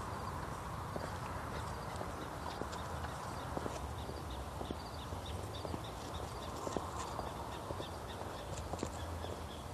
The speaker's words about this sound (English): Prairie dogs. I think it's a prairie dog chirping.